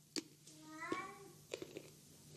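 tomcat meowing

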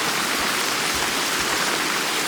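rain falling

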